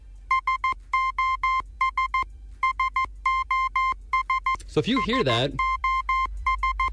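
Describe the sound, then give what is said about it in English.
A steady, repeating Morse code SOS, the international distress signal, in sharp electronic beeps of short and long tones in groups, continues throughout while a voice briefly speaks over it partway through. “Here's the Morse code of the SOS.”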